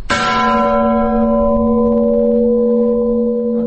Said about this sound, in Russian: Например, вот самый низкий колокол на нашей колокольне. Если в него ударить просто, как человек впервые поднимется, ударит, скорее всего, у него получится такой дребезжащий звук.